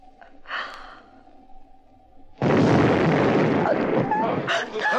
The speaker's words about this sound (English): That explosion came from outside.